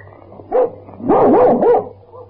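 General Luard's dog, Paddy, barks: one short bark, then a longer run of excited, yelping barks with wavering pitch, fairly loud over a low background hum.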